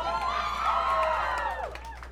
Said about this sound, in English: The young people applauded that. Old people too! The rest of you are just like, oh, I'm too old and mature for that.